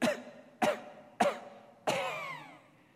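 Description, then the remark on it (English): A voice imitates the failing engine of a lawnmower at the end of its first loop around a yard of not quite 2 acres: four harsh, cough-like sputters at a steady pace, the last one louder and drawn out before it trails off. “And at the end of my first loop, I hear this from the engine.”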